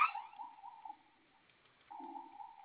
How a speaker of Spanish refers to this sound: Ok, pero sigue habiendo humo porque sigue sonando la sirena, ¿verdad? Sí, es que hay humo. Está literalmente toda la tienda repleta de humo.